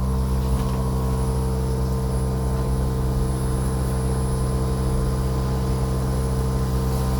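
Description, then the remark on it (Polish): An air conditioner runs at its highest fan speed, set to its lowest temperature of 18 °C, a constant, even whoosh of air over a low mechanical hum with faint steady tones, holding the same level throughout with no talking. “Docelowo ustawia się ta klimatyzacja na najniższej możliwej temperaturze, czyli 18 stopni Celsjusza.”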